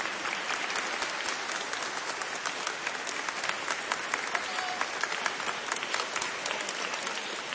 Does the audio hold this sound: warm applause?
yes